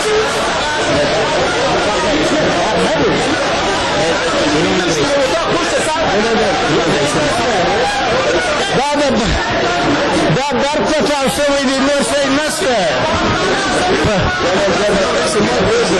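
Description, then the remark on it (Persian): A dense, noisy crowd of lawmakers clamors as they rush out of the National Assembly in Kabul after an explosion shatters the glass, many overlapping voices and shouts blending into a continuous hubbub with scattered bursts of movement and commotion. “شیشه های مقابل من در دفتر رسانه های شورای ملی از هم پاشید و نمایندگان مردم که آن طرف همین شیشه قرار دارند با سر و صدا از مجلس بیرون می شتابند.”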